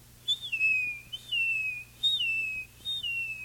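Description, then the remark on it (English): A person whistles a seagull-like call, four gliding notes that swoop down and trail off, repeated in a steady rhythm, clear with no talking. “Seagulls are found all along the coast.”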